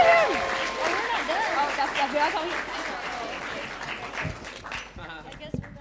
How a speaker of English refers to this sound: All right, let's give table one a round of applause.